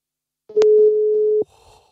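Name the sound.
phone call ringing tone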